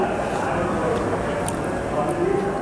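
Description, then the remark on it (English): Erbachhofer, a single-variety cider, pours steadily into a glass, a continuous fizzing splash lasting a few seconds, with a faint murmur of voices in the background. “pours us a taste of their cider called Erbachhofer, which is a single variety cider.”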